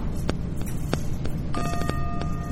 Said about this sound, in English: You guys will hear a bell when the meditation is over.